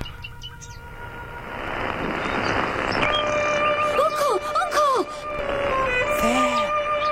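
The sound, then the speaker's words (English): A wild bird, relayed by radio from the Surrey garden of Beatrice Harrison, sings a series of quick rising-and-falling warbled notes over steady, sustained tones and a hissy, noisy background, moderately loud throughout. “And at last, we can interrupt the … to relay to you from the Surrey garden of Miss Beatrice Harrison for the first time, the song of a wild bird.”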